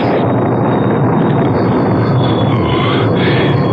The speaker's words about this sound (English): Just beginning to rain. Nothing more.